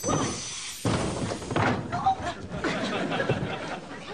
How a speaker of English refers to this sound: God, that felt great. I've always dreamt of kicking in a door. And since I did the kicking, you can keep on dreaming.